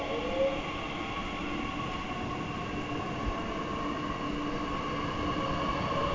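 A diesel locomotive rumbles steadily at moderate loudness, its deep engine drone layered with humming tonal bands and faint mechanical hiss, holding constant throughout without a clear approach or fade.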